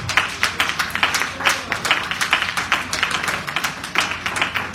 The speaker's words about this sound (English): Praise the Lord. Am I right about it? Amen. Put your hands to give God a hand clap.